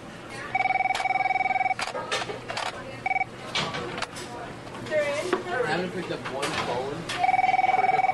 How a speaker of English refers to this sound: The phone rings and rings. When you finally get through, bam, bam, bam, bam, bam, bam, bam.